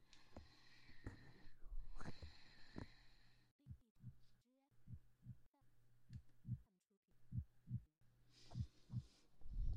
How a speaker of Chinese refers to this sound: 试一下你的心跳，看看是否正常。